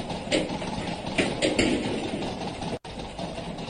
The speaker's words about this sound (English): What is the noise? Like a door handle maybe going back and forth?